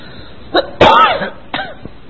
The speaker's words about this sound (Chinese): 对不起啊，咳嗽断断续续的。